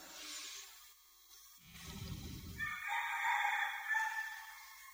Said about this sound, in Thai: ที่นี่นกเยอะนะมีนกมีไก่ป่ามีอะไรเช้าเช้าร้องกันระงมเลยถ้าเป็นฤดูหนาวเนี่ยนกจะร้องเยอะ